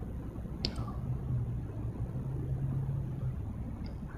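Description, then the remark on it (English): A steady low rumble of traffic, with engines droning continuously and a couple of faint clicks near the start. “There are sounds of the traffic.”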